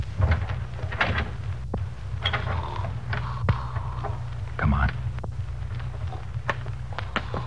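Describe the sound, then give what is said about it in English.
A door being opened: a run of mechanical clicks, rattles and short creaks over a steady low hum, with a few sharp knocks along the way and no clear talk. “Open the door.”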